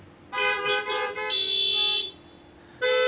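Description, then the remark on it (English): A car horn honks loudly: a few quick stuttering toots, then a longer sustained blast, a brief pause, and another honk starting at the end. “Just one honk?”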